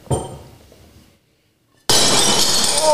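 A plate is thrown to break it and smashes with a sharp crash whose clattering shards fade over a second, then a brief silence before a loud, harsh burst of sustained noise.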